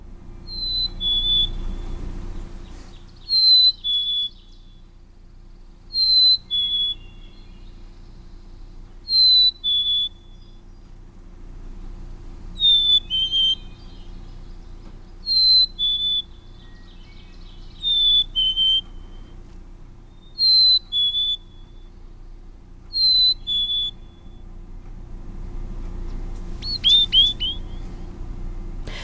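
A black-capped chickadee repeats its clear two-note "hey-sweetie" whistle about ten times at steady intervals, high and pure with a falling second note, over a low background hum.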